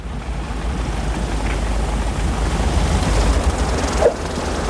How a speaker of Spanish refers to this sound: El avión aterriza en una explanada cercana.